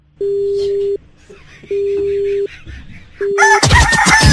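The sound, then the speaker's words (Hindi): Three steady telephone-style tones repeat with short gaps over faint background chatter, then a loud rooster-crowing jingle bursts in abruptly at the end: the Mirchi Murga jingle on radio station Mirchi 98.3. “मिर्ची मुर्गा नवेद के साथ ऑन मिर्ची 98.3।”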